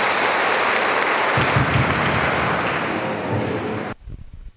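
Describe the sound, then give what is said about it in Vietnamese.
A crowd applauds steadily with dense, continuous clapping for about four seconds, then it stops abruptly, leaving quiet room tone. The applause is at a Buddhist retreat and welcomes a dharma talk by Most Venerable Thích Minh Chơn. “Xin vị dành cho tràng pháo tay.”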